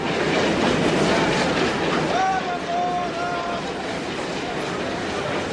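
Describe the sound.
A train pulls away in a steady, loud rumble of wheels on rails as a man jumps aboard the departing train, with a brief high metallic squeal partway through and faint voices mixed into the noise.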